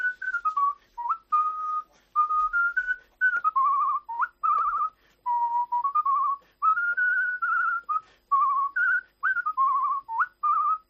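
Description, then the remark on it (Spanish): A woman whistles a lively melody alone, clear, with short tonal phrases rising and falling in a bouncy rhythm separated by brief pauses. “La entrevista con la silbadora y nos lo ha mandado.”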